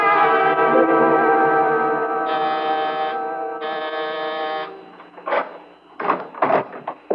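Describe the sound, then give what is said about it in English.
A harsh, steady electric doorbell buzz drones for nearly five seconds, brightening twice in short surges, then gives way to a handful of irregular clunks and knocks. “I'm sorry to ring your bell this late.”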